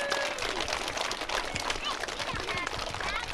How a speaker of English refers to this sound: So let's give a round of applause, pat on the back to our Jefferson students.